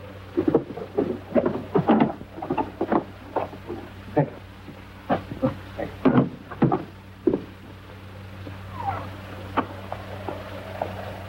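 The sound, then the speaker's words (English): A door at the end of a passage is opened with a series of wooden knocks, rattles and clunks, followed by quieter handling sounds and a faint creak, over a low steady hum. “Would you open the door at the end of the passage?”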